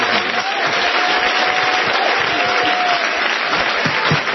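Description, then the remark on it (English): An audience claps steadily throughout at a preacher's call during a sermon, a dense, continuous wash of many hands with reverberation, faint voices and a brief high tone running underneath. “On my way to heaven, somebody clap your hand.”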